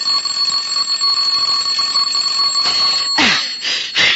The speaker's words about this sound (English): I said the doorbell. What about it? It's ringing. Let it ring.